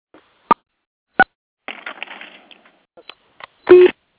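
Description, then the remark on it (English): Telephone line beeps during a conference call: a few short, sharp electronic blips at irregular intervals, a patch of crackly line noise in the middle, then a louder, slightly longer steady tone at the end. No one speaks. “I heard it kind of do a little beep, but I don't know what that was about.”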